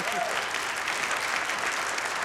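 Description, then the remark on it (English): A crowd applauds steadily, a dense wash of many hands clapping at once, fairly loud and even from start to finish with no voices on top, after a live band performance on the Red Barn Radio show. “You can clap now.”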